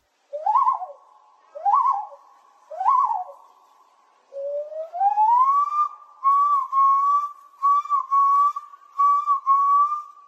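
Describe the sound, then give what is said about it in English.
A person at a loon calling competition at the National Loon Center in Cross Lake, Minnesota, whistles an imitation of a common loon: three short rising-falling hoots, then a long sliding wail that climbs and breaks into a series of wavering, yodel-like notes. “Each year, adults and children gather in Cross Lake, Minnesota, to celebrate the incredible sounds of the common loon, the state bird of the land of 10,000 lakes. Some impressions are striking.”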